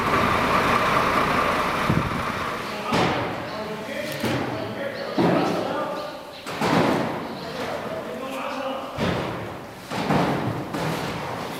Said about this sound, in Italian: Il frastuono del camion carico di aiuti umanitari proveniente da Algeri e le voci degli operai addetti alle operazioni di scarico hanno una risonanza che racconta una scomoda verità.